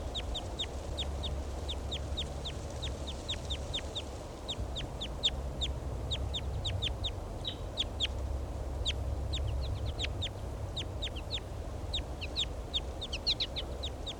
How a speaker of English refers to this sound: Giving flight calls. Pointing at the wild bird. Start recording the wild bird.